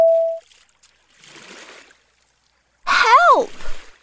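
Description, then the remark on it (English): A short, soft burst of water splashing lasts under a second, set between a brief steady beep at the start and a loud, swooping voice-like cry at the end. “Oh no! We're on the water!”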